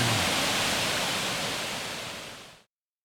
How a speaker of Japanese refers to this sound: あ優雅で美しい、 優雅で美しい、 地元の人は御滝とか、 はい、 あるいは二能の滝と呼んでいます。 あそうですか、 はい、 本当に綺麗な滝ですね。